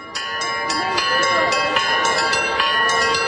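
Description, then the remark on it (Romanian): The bells of Orthodox churches in Moldova ring in the early morning hours to mark the 15th anniversary of the Republic of Moldova's independence, in a rapid, steady peal, several bells striking in quick succession with long overlapping metallic tones that sustain loudly throughout. “Dangătul clopotelor tuturor bisericilor ortodoxe a marcat în primele ore ale dimineții cea de-a 15-a aniversare a independenței Republicii Moldova.”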